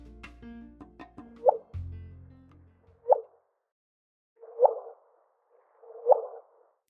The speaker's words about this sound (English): Let's hear the chirp signaling the detection of a gravity wave emanating from two black holes merging 1 billion light years away.